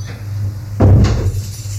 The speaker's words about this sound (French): La porte s'ouvre.